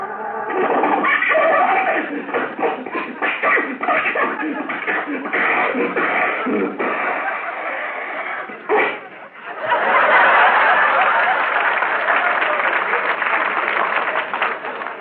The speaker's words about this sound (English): The motor sounds as though it's going from bad to worse. Sounds like it's going from here to eternity.